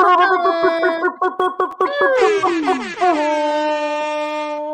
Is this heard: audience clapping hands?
no